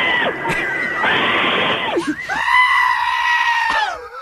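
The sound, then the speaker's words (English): Two long, loud, strained screams follow one another closely, one a goat's bleat and the other a man's yell, so alike in pitch and rasp that they are hard to tell apart. “One's a goat, one's a guy.”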